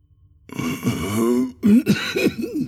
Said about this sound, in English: … coughed as he tried to speak